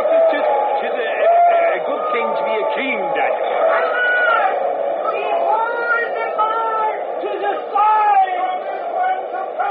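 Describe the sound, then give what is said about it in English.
A large crowd down on their knees yells and clamors together without pause, many voices overlapping in a steady, loud roar with rising and falling shouted cries throughout. “Right down on their blooming knees and yelling their foreheads off.”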